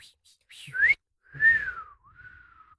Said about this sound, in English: Wow. Powerful whistle.